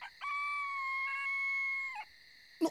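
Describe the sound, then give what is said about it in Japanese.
A chicken lets out one long, shrill, loud screech as it is being slaughtered, held steady for a couple of seconds before breaking off, followed by a brief sharp squawk. “お前らが来ると思ってこうして鳥を閉めていたところだ。”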